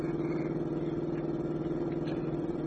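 A car engine drones loudly and steadily at high speed as the car is driven as fast as it will go, a constant motor hum with no change in pitch and no voices.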